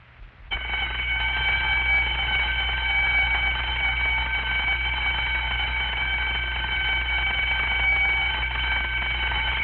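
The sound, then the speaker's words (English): A fire station alarm bell gives a long ring, calling the crew to the station phone: loud and without a break for nearly ten seconds, a steady, shrill metallic clamor over a low hum, starting abruptly after a brief moment of quiet. “On receipt of a long ring, get to that phone in a hurry.”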